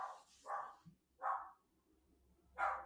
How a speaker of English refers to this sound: Oh, sorry. The dog's off again. Dog's off again.